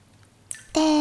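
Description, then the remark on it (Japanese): Near silence gives way to a short wet swish, then a louder rush of sloshing, splashing warm bath water fills the final moments. No one speaks. “それに、水音も聞こえて、癒し効果も抜群だよ。”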